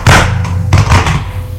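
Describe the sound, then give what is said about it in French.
Several small medicine bottles taken from a medicine cabinet fall at night, tumbling and clattering in two loud bursts, with rattling bounces trailing off over about a second and a half. “Ce qui a fait dans la nuit un bruit terrible.”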